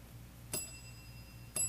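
A small bell is struck twice, about a second apart, each strike sharp and bright with a shimmering ring that lingers. Fairly quiet, with no voices.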